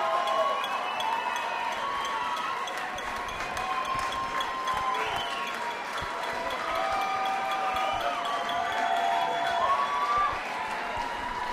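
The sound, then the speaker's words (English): A concert crowd at the 930 Club cheers steadily for an encore, a dense roar of shouts and clapping with shrill whistles and voices rising above it, holding at full strength throughout. “Crowd wants more.”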